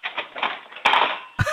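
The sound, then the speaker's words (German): Metal forks clatter and jangle as a 9-year-old girl in Krems, Lower Austria, takes them out and drops them back into a kitchen drawer, a run of bright rattling clinks followed by a second sharper burst of clanking, with no voices. “Und dann holst du alle von den Gabeln raus und lässt sie nochmal in die Lade reinplumpsen.”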